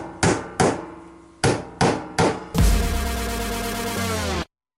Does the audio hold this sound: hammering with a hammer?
yes